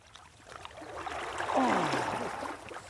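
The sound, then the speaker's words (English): Sloshing and swishing of water as someone wades into a flowing river, the splashing building to a louder surge midway and then easing off, with no voices. “What's amazing is, you know, the river's risen by at least 6 inches.”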